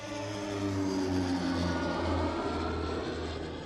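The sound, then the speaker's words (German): A small propeller hail-suppression aircraft in Rosenheim, Germany drones steadily in flight, its engine a loud, continuous hum with a low harmonic buzz that holds for the whole stretch, with no voices. “Ebenfalls umstritten ist der Einsatz von Hagelfliegern.”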